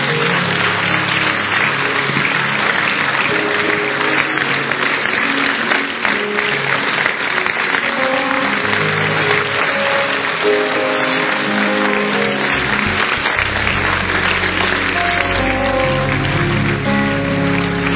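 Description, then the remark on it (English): An audience claps for Jesus during a sermon in a loud, steady wash of applause that fills the whole clip, with music sustaining underneath and deepening toward the end. “Clap for Jesus.”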